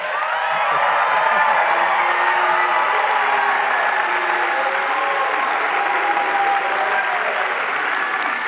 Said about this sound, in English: Why are you booing him?